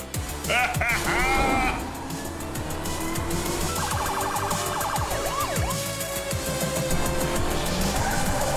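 car being driven

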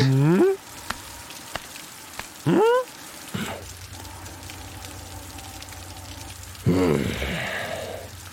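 rain falling

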